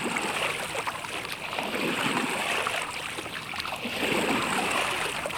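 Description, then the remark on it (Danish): A boat with someone aboard trying to slip away moves across open water, with a steady wash of churning, splashing water that stays fairly loud and even throughout, no voices heard. “Se, der er nogen i en båd, der forsøger at smutte væk.”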